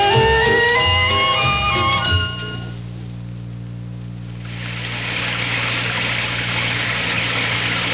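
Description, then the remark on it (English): A low, droning hum with steady tones fades out, and after a brief lull a loud, continuous rush of floodwater swells in and keeps roaring without a break. “Sometimes a gentle rain in one place adds up to a raging torrent in another.”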